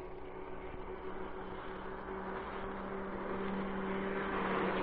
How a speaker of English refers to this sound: Hold it, driver. Put out your lights while that police car goes by.